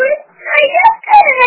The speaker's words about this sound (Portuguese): Ai, tá chorando muito, tá com sono.